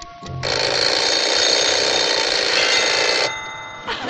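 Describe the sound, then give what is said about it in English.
A clock's loud, continuous bell-like ringing blares for about three seconds, then abruptly stops, leaving only a faint lingering hum. No one speaks. “You broke my clock.”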